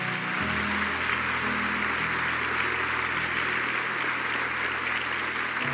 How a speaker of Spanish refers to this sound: Un fuerte aplauso a Jesús.